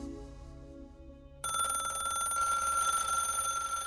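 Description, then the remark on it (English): A telephone bell starts ringing abruptly after a quiet, low hum, then rings continuously with a bright, sustained metallic trill, loud, filling the rest of the moment, as The Sun's editor, Kelvin McKenzie, is bombarded by phone calls from all over the UK. “The day after the article's release, The Sun's editor, Kelvin McKenzie, was bombarded by phone calls.”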